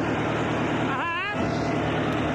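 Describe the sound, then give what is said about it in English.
A truck engine rumbles loudly and steadily as the truck arrives, a dense continuous drone, with a brief wavering high-pitched tone rising over it midway through. “Oh, boy, there's the truck.”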